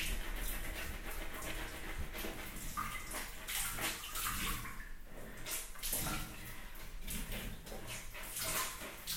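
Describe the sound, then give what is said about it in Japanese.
Wet, squishy scrubbing and lathering as someone is washed with plenty of foam. A steady busy rush of bubbly foam is worked by hands for several seconds, with splashy water texture and no talking. “いっぱい泡にしよっか。”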